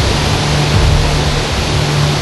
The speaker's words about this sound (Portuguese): É muita água caindo de quase 30 metros de altura.